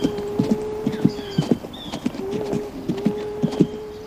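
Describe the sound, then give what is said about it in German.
Steady clip-clop of a ridden horse's hooves at a walking pace, moderately loud, with birds chirping faintly in the background and a low tonal hum underneath. “Ja, also wir sind verkehrt rum auf ein Pferd gestiegen. Wir reiten schon seit Stunden rückwärts.”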